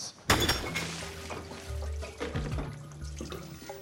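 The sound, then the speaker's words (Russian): A toilet being smashed: a sudden, loud crash of ceramic shattering, followed by splashing and gurgling water with scattered clinks and ringing tones continuing for a few seconds, with no voices. “По-моему, замена толчка в план ремонта не входила. Теперь вошла.”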